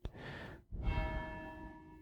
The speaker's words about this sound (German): Das sind meine Glocken, ja. Ist echt schön. Was habe ich dieses Glockenläuten vermisst, als hier nach der Flut auch kein Strom, in der Kirche war lange kein Strom, es hat lange nicht geläutet.